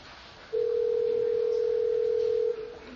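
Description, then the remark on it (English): A phone line's ringing tone from a free internet call placed through Gmail to a friend in Dubai, United Arab Emirates: one steady, clear electronic tone held for about two seconds over faint background hiss, with no talking. “Let's see if we can call him up.”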